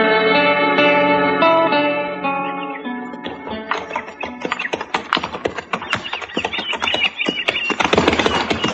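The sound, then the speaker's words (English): A sustained musical chord fades into a steady run of hoof clops, a horse walking on the prairie at an easy, uneven pace, stepping into prairie dog holes since leaving Cimarron, moderately loud with a slight echo. “Oh, this dang horse has tromped in every prairie dog hole since we left Cimarron.”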